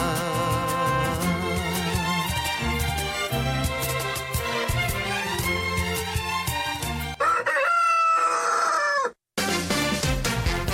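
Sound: rooster crowing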